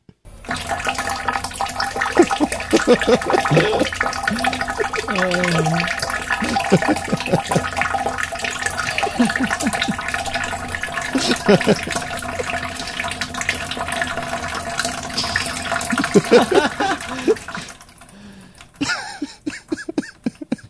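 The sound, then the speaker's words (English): A toilet runs as an air conditioner shuts off, with a steady, loud hissing rush of water and gurgling undertones for about seventeen seconds, then abruptly quiets, leaving a few faint clicks and taps. “So there's this thud as the air conditioner shuts off. And immediately that begins. But it's coming from the room where Trumpet usually is. And there is a toilet in there.”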